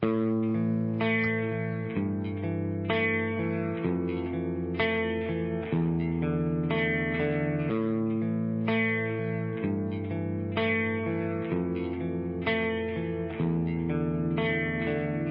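An instrumental song intro plays with no singing: steady, rich chords change in a regular rhythm every couple of seconds, held at a full, even loudness throughout.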